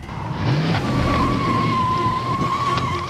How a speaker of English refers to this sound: The suspect must have a death wish. Taking off on me. Racing the wrong way up a highway off-ramp.